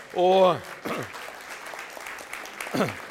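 A church audience applauds the translator with a steady wash of clapping, broken by a loud whooping cheer at the start and another short cheer near the end.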